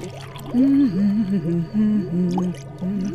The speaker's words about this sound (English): take these two beakers and fill them both with water.